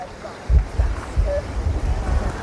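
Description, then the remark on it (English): Sandy beach ambience on the Norfolk coast in summer sunshine, tide out, people swimming and surfing in the sea: a steady, hissing wash of surf and breeze, with low gusty rumbles of wind buffeting the microphone in uneven bursts throughout. “A couple of cafes, serving breakfast, holidaymakers, shops selling buckets and spades and other stuff that families can take down onto the beautiful sandy beach here. The tide is out. People are all in the sea, swimming, surfing.”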